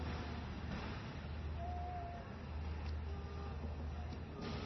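A forfeited car moves along a road with a steady, low engine rumble and tire hiss that holds even throughout, with no clear approach or fade, and no one speaking.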